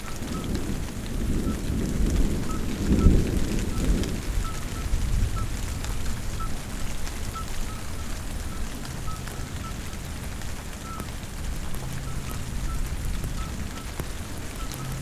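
Steady rain patters down outdoors at the Étang de Varandon, at 1100 metres altitude in Lozère, France, while low thunder rumbles at the end of a thunderstorm, swelling early on and then fading into a softer roll as the storm winds down.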